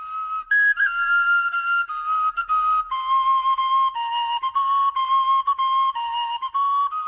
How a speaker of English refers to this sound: That's a tin whistle, obviously. Oh, brings out the Irish in me, I guess.